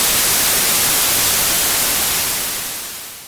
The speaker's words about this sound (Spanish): Mi papá no estaba en casa. Se encendió sola la televisión en estática.